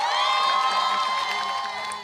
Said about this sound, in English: Cheers as the first three hostages are released by Hamas under the ceasefire deal now in effect with Israel.